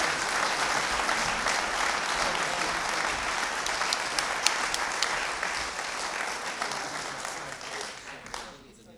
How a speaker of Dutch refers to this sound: En mag ik een daverend applaus voor deze fantastische...